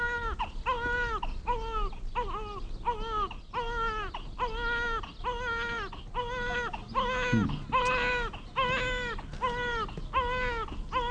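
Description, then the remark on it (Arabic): A hungry infant, needing its mother to feed it, cries steadily, letting out a rapid, rhythmic string of short wailing bursts, roughly one each second, with no talking over it. “كان من المفترض أن تترك الرضيع لأمه كي تطعمه. قد تغير لونه من الجوع.”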